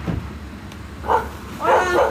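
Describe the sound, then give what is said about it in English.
A dog barks a few times: one short, mid-pitched bark, then a longer, louder run of barks over a low background rumble. No one speaks. The dog is at a house's front door as it opens. “She's here with this dog, looking extremely confused and disheveled, like as if she'd just been woken up out of bed.”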